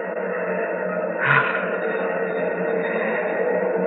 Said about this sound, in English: Hear those rocket engines? Yes. Nearly 1,000,000 pounds of thrust. Oh. They're ripping Pegasus 4 loose from Earth's gravity.